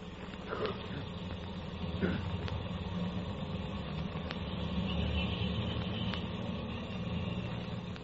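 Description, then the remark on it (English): A car engine runs steadily throughout as the car is driven out to Twickenham, a continuous low rumble and hum with a few faint clicks and rattles over it, and no one speaking. “Oh, we can drive out in my car.”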